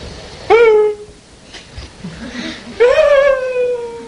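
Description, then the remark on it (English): A voice imitates a man in a play crying when a bird died: two loud, drawn-out wails, each rising sharply then sliding down in pitch, with a quieter whimpering stretch between them. “And the man started crying when the bird died.”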